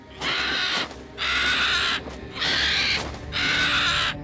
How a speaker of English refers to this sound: As soon as the sannyasi appeared, Sita heard a bird scream. She looked up. Jatayu was perched in the tree above her, his eyes locked on the old man.